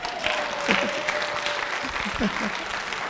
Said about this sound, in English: So when I say clap, why are you not clap? I'm just saying that this kind of messages, it does not call for clapping. So clap now.